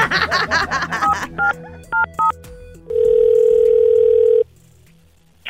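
A telephone call to a hardware store being dialed, with a quick run of touch-tone beeps followed by a few spaced pairs of tones, then a single loud, steady ringing tone that holds for over a second and cuts off.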